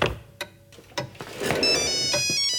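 A few soft knocks and rustles, then a bright electronic mobile phone ringtone starts up and plays a steady, high-pitched melodic tune, fairly loud, until the end.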